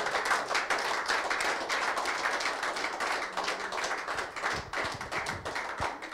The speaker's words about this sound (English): Can we give God a clap offering today?